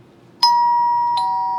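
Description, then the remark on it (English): A doorbell chimes twice, a bright ding followed by a slightly lower dong, both tones ringing out clearly and fading slowly over a quiet background. “can you get the door?”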